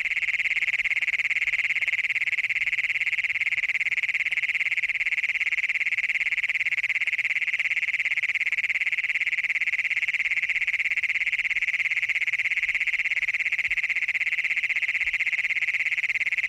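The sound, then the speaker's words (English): An adult male frog or toad gives a continuous, high-pitched trilling advertisement call to find a mate, recorded near Wilcox, Colorado, droning steadily and fairly loudly for the whole stretch, with no talking and only faint background noise underneath. “These so-called advertisement calls by adult males hoping to find a mate were recorded near Wilcox, Colorado.”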